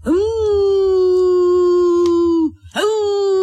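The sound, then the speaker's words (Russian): A child's voice, as the story character Emil sitting under a table, imitates a wolf howl: one long, loud, steady mid-pitched wail rising at the start and held for over two seconds, then a short break before a second howl begins. “А это у нас тут под столом волк.”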